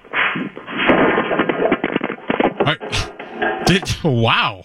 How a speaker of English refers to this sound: Sorry, I dropped the phone.